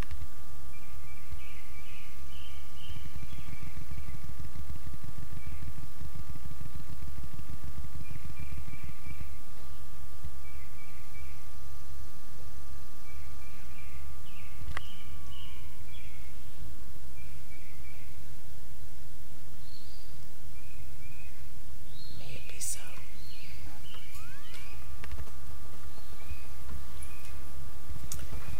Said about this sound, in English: There's a bird that does this chirp, chirp, chirp, chirp, chirp, chirp, chirp.